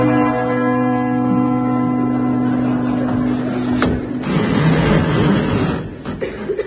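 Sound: door bell ringing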